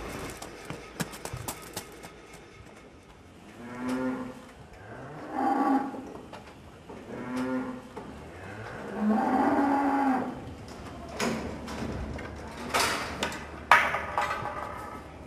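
Dairy cows on a farm moo repeatedly in long, drawn-out calls, several overlapping, with clanks and knocks of a barn in the background.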